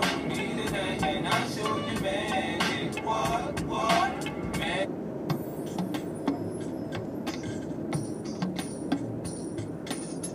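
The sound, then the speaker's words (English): A steady, dense rumble of street traffic with engines droning and occasional clicks and hisses on top, holding a constant loudness throughout. “Like this fucking traffic right here.”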